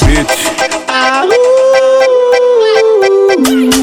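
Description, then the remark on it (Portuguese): A long, drawn-out dog-like howl rises and holds steady for several seconds, loud, over a steady rhythmic musical beat before dipping at the end. “Esse coração cachorro apaixonado por você quando ele te vê faz”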